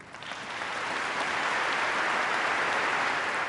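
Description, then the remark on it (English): Thunderous applause from a large crowd for Pope Benedict, a dense, steady roar of clapping that swells quickly at the start and holds loud and even throughout, with no voices standing out. “After thunderous applause, a visibly moved Pope Benedict rose to thank those present for their prayerful best wishes.”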